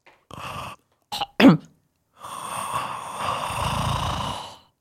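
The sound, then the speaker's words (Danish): A person imitates snoring with a few rough, rasping breaths: a short drawn-out rattle, two quick throaty snorts, then a longer, steady wheezing inhale-like drone. “Er det egentlig det, folk gør, når de snorker?”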